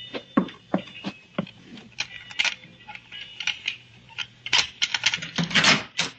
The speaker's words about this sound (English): Where did you learn how to pick a lock?